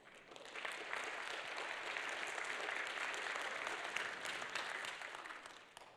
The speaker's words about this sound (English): Is that worth clapping your hands over?